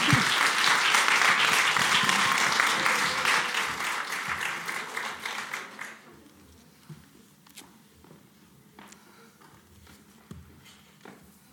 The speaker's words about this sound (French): Voilà, bienvenue Valérie Zenati, nous l'applaudissons très fort.